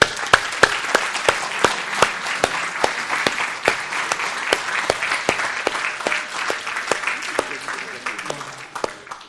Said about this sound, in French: Mais on ne prend pas toujours assez de temps pour s'applaudir les uns les autres. Est-ce qu'on peut s'applaudir les uns les autres?